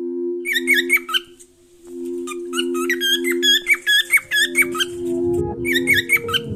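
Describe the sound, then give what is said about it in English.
A bird named Rigo squawks in quick bursts of sharp, squeaky calls, pausing briefly between volleys, over a steady low droning tone; the calls are fairly loud. “Rigo is a bird.”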